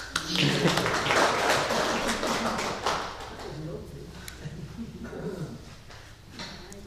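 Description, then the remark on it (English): A crowd breaks into applause, a dense, crackling burst of many hands clapping that is loudest at first and then thins and fades over several seconds, with some voices murmuring underneath. “And maybe a clap.”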